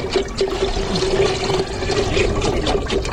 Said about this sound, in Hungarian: A kannából kiöntött, minden cseppjében aranynak tekintett víz?